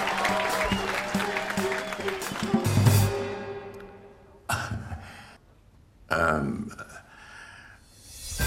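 An audience claps and cheers loudly for about three seconds, then the applause fades, with two more short bursts of clapping and crowd noise rising again.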